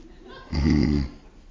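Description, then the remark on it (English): A voice imitates a man snoring as he naps in the middle of an exam: one short, loud, rumbling snort lasting about half a second, with quiet background before and after. “I watch him push his exam back, set his watch alarm, fold his arms, and go to sleep. He literally takes a nap. He snores.”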